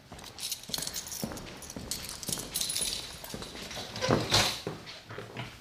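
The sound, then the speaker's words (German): Metal keys jingle and clink in irregular bursts, followed by knocks and clatter as a key turns in the lock and the door of a historic half-timbered house opens, with shuffling steps entering and no talking. “Ich habe einen Schlüssel. Na, los. Wir gehen jetzt in dieses Fachwerkhaus hinein.”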